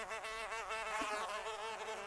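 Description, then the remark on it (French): A honeybee buzzes steadily, its droning hum wavering slightly in pitch for a couple of seconds with no voices or other sounds around it. “Aujourd'hui, nous allons parler de l'abeille.”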